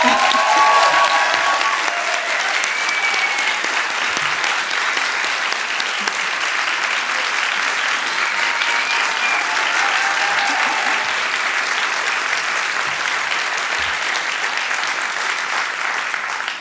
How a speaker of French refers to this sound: C'est très flippant que vous applaudissiez alors que je tremble.